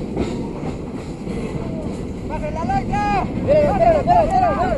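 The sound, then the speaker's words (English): A freight train carrying migrants on its roof rumbles steadily along the tracks, a dense low roar throughout, with wavering high-pitched squeals or shouts rising over it in the second half as people on top yell encouragement to migrants running alongside to grab on. “As the train rolls on, more migrants appear along the tracks.”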